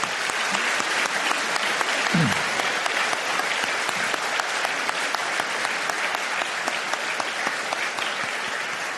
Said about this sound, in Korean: 올해 80주년을 맞이하면서 이번 선교대회는 우리 파송 선교사님들, 협동 선교사님들이 다 오셔서 함께하고 계시는 특별한 주간입니다. 오늘 이제 봉헌송도 나중에 드리실 텐데 이쪽에들 앉으셨거든요. 우리 선교사님들 박수로 맞이하도록 하겠습니다.